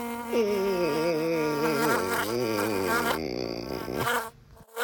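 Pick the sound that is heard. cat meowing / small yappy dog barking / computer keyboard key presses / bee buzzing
bee buzzing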